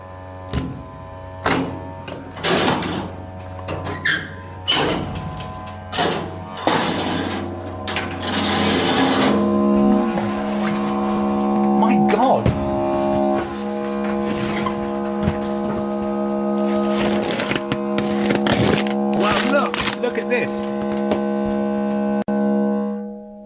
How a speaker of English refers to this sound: 724, 723, 722, and here, the double yellow door marked 721. Now, there's a padlock on the front of this. Here's the keys. Let's go.